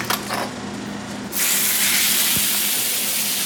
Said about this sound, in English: Yeah, I'm just chopping the steak on the grill right now. And mixing the onions in as I go.